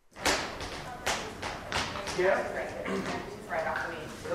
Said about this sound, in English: At a 42nd Street rehearsal studio, 14 dancers are working on a big production number guided by dreadlock choreographer Savion Glover.